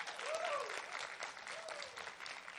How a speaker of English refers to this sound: If you're going to clap, don't patty cake. Come on.